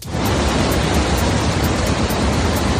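A steady, dense, loud roar of water pours without pause through a large crack in the Kakhovka dam on the Dnieper River in Ukraine, breached by an explosion. No voices are heard.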